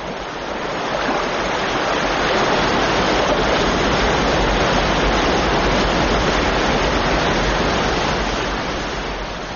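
A steady, dense roar of Niagara Falls, loud and continuous for the whole stretch, swelling slightly in the first seconds and then holding, with no voices.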